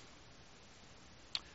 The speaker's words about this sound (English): You see, there's so much typology, I can't even get to it all because this clock is bugging me.